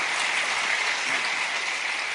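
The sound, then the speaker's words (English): Steady, dense applause from an audience, a continuous wash of many hands clapping at an even loudness throughout with no voices over it. “Can we give them a round of applause as we go into this break?”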